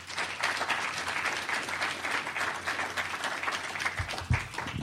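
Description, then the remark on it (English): An audience applauds steadily, a dense, even wash of many hands clapping that holds at a fairly constant level throughout, with a few low thumps near the end, welcoming literary and textual critic Dr. Robert A. Reese to speak at a Sunstone session. “Please give some applause for Dr.”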